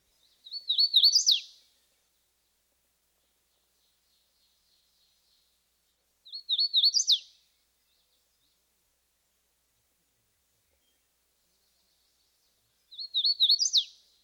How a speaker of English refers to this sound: Like the ovenbird, our next species, the hooded warbler, spends a lot of time on the ground. The hooded warbler's song is normally three phrases which sound like a wheat, wheat, wheatio.